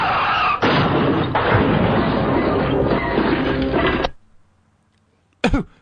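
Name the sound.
car crash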